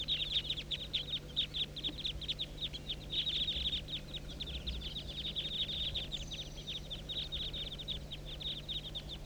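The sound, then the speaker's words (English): A flock of some 25 to 30 birds circles about 200 feet above a hollow, calling continuously, many high, rapid chirps overlapping in a steady, pulsing chorus over a low background hum, with no voices. “Now they're about 200 feet, still circling above the hollow.”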